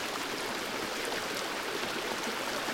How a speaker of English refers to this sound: Now let's begin focusing on the internal organs and use the sound of water to heal your internal organs.